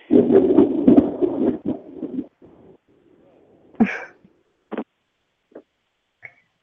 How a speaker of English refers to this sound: Was that thunder? I mean... It sure was. Oh, my God.